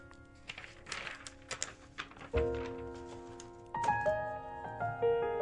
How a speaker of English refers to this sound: As you hear paper flipping around and a pen clicking.